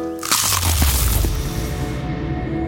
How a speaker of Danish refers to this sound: Det her var et forsøg på at tage en lydløs bid af den nye knasende kyllingeburger McCrispy. Desværre fejlede det. Prøv om du kan gøre det bedre.